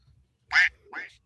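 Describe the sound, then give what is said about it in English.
Two nasal duck quacks in quick succession, the first louder and sharper, the second slightly softer and drawn out, against a quiet background. “I'll fucking kill you and that stupid duck.”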